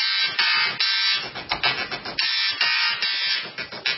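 Buzzy, whining electric motor tones step through a sequence of pitches, forming a recognizable tune with rhythmic starts and stops, loud and close with no voices.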